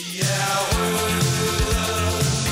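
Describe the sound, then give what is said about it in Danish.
A Danish football anthem plays loud, a full band with steady bass notes and bright sustained melody lines, with no talking over it. “Men er det, hvad kan man sige, the mother of all football songs i Danmark?”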